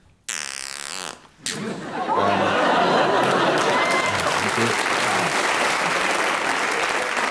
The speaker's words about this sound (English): They'll applaud at anything, this audience, won't they?